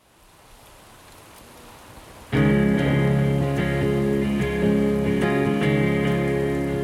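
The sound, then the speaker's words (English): Very heavy morning rain hisses steadily and builds for a couple of seconds, then a loud, sustained musical drone with layered tones swells in and dominates while the downpour continues underneath. “On the last morning, it rains as hard as I've ever seen.”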